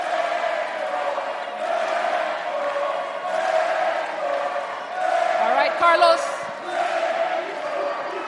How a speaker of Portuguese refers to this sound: Estamos a ouvir os gritos pelo Petro.